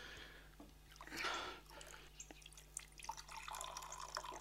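Liquid being poured into a glass, with a fuller gurgling rush near the start, then lighter trickling and a few small drips and clinks, over a faint steady hum.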